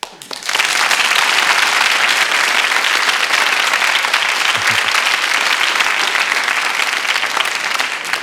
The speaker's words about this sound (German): Könnte ich mal einen Applaus haben?